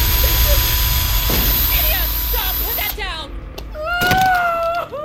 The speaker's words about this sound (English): She presses the drill up against her soft, soft, soft palate, ready to gouge out her brain. She prepares to squeeze the drill on the count of three. One, two, three.